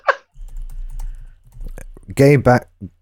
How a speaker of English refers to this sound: Oh, fucking keyboards. sorry.